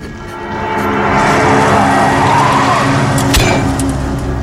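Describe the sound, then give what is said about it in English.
A car engine roars as a police officer driving hits the gas and accelerates hard, with tires screeching against the road. The sound is loud, swelling over a few seconds, with no talking. “And then he comes up, he almost puts the axe into the cop, and the other cop driving hits the gas, and he misses and hits the back of the car.”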